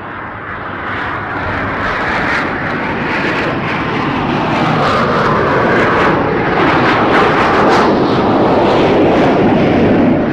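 A propeller airplane drones loudly and steadily overhead, its engine roar filling the air with a broad, rumbling hum that swells slightly as it passes.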